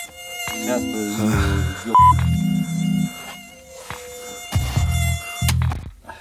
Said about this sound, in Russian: Бля, подожди. Это что за хуйня? Этот комар сраный, блядь, здесь уже третий день нахуй летает. Чё? Я говорю, комар ёбаный, блядь, третий день летает. Комар? Да.